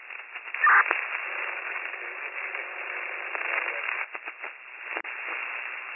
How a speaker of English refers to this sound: Your radio is not making it all static.